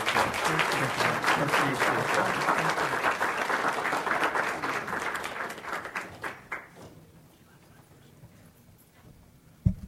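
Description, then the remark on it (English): An audience at a forum with police chief finalists breaks into dense, steady applause for the finalists that holds strong for several seconds, then thins out into a few scattered claps and fades to near silence, with one sharp tap at the very end. “Please join me in one more round of applause for all of our police chief finalists.”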